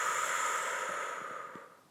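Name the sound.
deep breath exhaled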